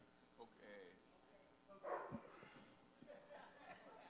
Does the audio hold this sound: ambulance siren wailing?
no